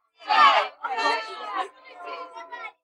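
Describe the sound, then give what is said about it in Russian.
A group of children at a celebration shout 'hurrah' together in a few loud, drawn-out bursts as balloons are released into the sky, with the last cheers trailing off more quietly. The voices sound lively. “Когда все работы были завершены, всем мальчикам и девочкам организаторы праздника раздали воздушные шарики, которые под дружные возгласы «Ура!» и аплодисменты были отпущены в небо.”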